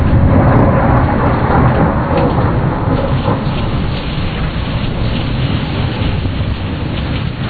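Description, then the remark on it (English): Heavy rain pours down in a dense, steady roar with a deep rumbling undertone of a thunderstorm, a storm shower lasting about 20 minutes, loud and unbroken throughout with no voices. “This storm shower alone must be a good 20 minutes.”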